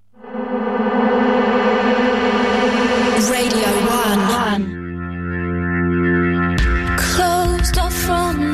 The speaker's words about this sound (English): When I pressed that jingle, I've never heard that one before, and I actually thought, what the hell is that? What have I done? What have I pressed?